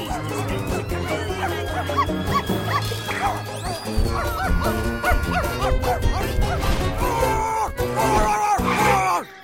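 A dog barks and yips repeatedly in quick, excited bursts, loud, over a busy, cluttered background of noise and commotion that continues for the full length.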